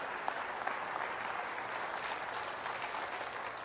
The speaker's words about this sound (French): Applaudissez le roi qui donne son royaume.